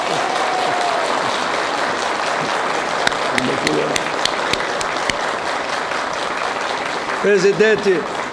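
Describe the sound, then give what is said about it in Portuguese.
A steady, dense round of clapping for the TV Senado staff fills the whole stretch, loud and sustained, with a few sharper individual claps standing out and a brief voice rising through it near the end. “Estão liberados para dar uma salva de palmas aí.”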